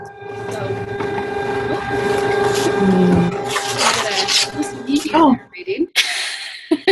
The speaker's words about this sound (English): I could hear a printer.